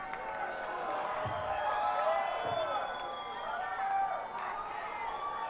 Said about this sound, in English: How quickly they boo. But you know, maybe they're not booing, they're yelling, Uke. Uke. Uke. I think they want me to get the ukulele out.